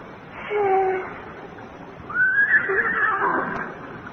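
A horse neighs twice: a brief whinny first, then a longer, louder call that rises sharply and quavers as it fades. No voices are heard.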